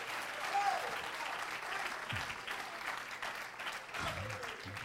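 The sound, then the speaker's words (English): A church audience claps hands during a sermon in a steady, dense wash of applause lasting several seconds, moderately loud, with faint voices murmuring underneath. “If you love the idea of redemption and that God has totally forgiven you of your sins and he's going to set you up eternally, clap your hands unto him and bless his name.”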